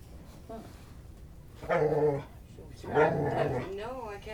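A puppy growls and yaps in two short bursts, followed by a wavering whine at the end, with a faint murmuring background between the outbursts.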